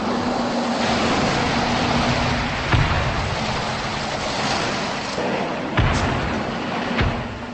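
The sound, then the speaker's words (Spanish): Continuous roaring battlefield din with heavy rumble, punctuated by a few sharp cannon and artillery blasts that boom out over the steady noise of tank and Katyusha rocket artillery fire, at the Battle of Stalingrad on the banks of the Volga River. “miles de kilómetros al este, a orillas del río Volga, se escuchaba el atronador concierto de cañones, cohetes de artillería, Katyusha y tanques de la batalla de Stalingrado.”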